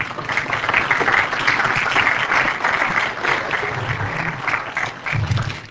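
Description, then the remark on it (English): An audience applauds steadily for several seconds, a dense wash of many hands clapping at once, loud and sustained with slight swells toward the end and no voices. “You can applaud now.”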